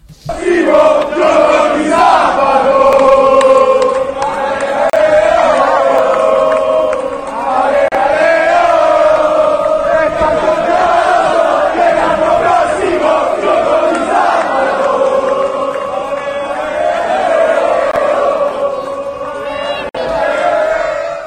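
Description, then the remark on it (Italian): A large crowd of Reggina football fans chants in unison, a loud, sustained, sing-song melody of many voices that rises and falls steadily for about twenty seconds without pause. “La festa dei tifosi della Regina, che come cantano l'anno prossimo, gioco di sabato.”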